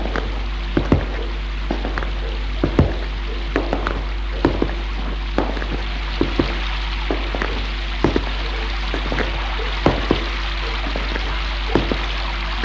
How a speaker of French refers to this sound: Dehors, il pleut.